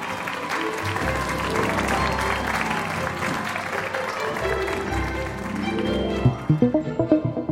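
A crowd applauds steadily, a dense, loud wash of many hands clapping at once, then near the end it breaks into a few distinct, rhythmic claps.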